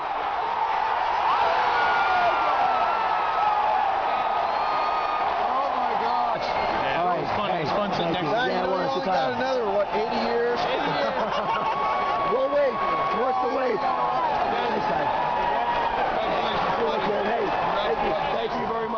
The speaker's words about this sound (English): This is from a video taken by a member of the crowd. So sitting there in Fenway Park, witnessing the final out of the 2004 World Series.